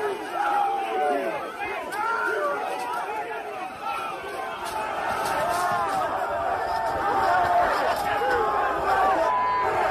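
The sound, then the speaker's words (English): A large, dense crowd of overlapping voices shouting and clamoring outdoors as the Proud Boys approach the Capitol from the northwest around 12:50 p.m., meeting a small police presence behind a temporary barrier; a steady loud roar that swells slightly toward the end, with occasional sharp thuds and cries rising above the noise. “At around 12:50 p.m., while President Trump has taken the stage at a nearby rally, another live streamer captures the Proud Boys approaching the Capitol from the northwest and encountering a small police presence behind a temporary barrier.”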